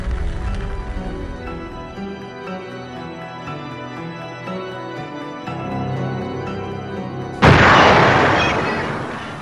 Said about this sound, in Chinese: 第二次爆炸声后，支离破碎的货轮从头到尾燃烧起来